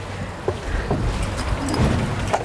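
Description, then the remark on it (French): A national police border-patrol (PAF) interceptor boat's engine drones steadily as it leaves the port of Mamoudzou onto the lagoon at low tide, with water splashing and rushing against the hull and some wind buffeting the microphone. “On embarque avec vous à bord du bateau de la police aux frontières.”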